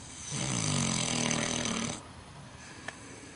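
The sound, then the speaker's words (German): A pig snores in one long, rasping, low-pitched breath lasting over a second, then quiet breathing noise follows with a faint click near the end. “Alle Tiere schlafen. Egal, ob wie hier das Schwein, der Hund oder das Pferd.”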